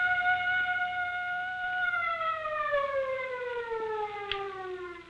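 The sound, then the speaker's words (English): A loud, steady siren holds a high wailing tone, then its pitch slowly sags downward as it winds down, fading toward silence near the end. “Turn off the siren.”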